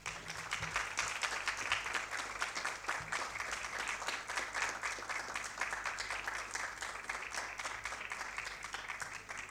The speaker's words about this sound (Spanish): a quien recibimos con un fuerte aplauso.